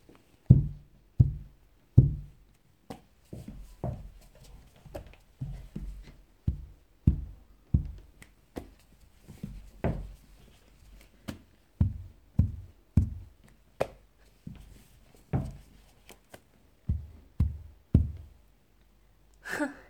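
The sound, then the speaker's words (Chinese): A long series of dull thuds of heads knocking against the floor as students kowtow in apology one after another along the first row of a classroom, repeating at an uneven, fairly quick pace, some hits heavier than others, with soft breathing between and no talking. “而且要用最标准的磕头方式，快一点，快一点。”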